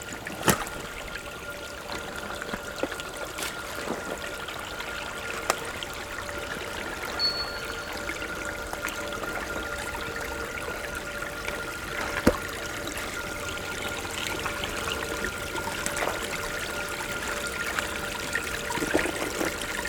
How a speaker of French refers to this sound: Et le clapotis est si agréable.